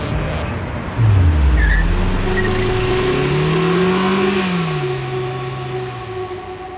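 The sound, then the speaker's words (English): A car engine starts with a sudden roar and revs up, its pitch climbing and falling through the gears as it accelerates steadily, loud and continuous with no voices. “So, get in the car.”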